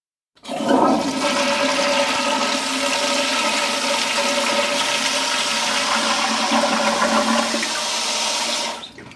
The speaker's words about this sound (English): you could tell me what key my toilet flush is in